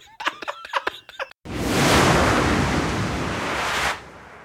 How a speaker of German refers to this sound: Genau. So ein Schredder rein, ja. So ein Papierschredder.